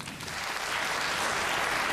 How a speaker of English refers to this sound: Clap if you knew your person 5 years or less. Okay? Clap if it was 3 years or less.